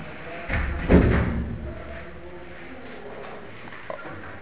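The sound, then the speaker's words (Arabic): A door is pushed shut with a single heavy thud after a brief rustle, followed by a low steady hum and a faint click a few seconds later. “سألني إذا يغلق الباب شوي لو سمحت، أتكلم من هذه الجهة ويدخل في أذني من هذه الجهة.”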